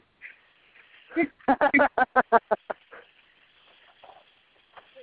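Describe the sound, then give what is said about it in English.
A dog lets out a quick burst of about nine sharp, yappy barks in rapid succession, fairly loud, then falls quiet over a faint background hiss. “How dare your dog bark?”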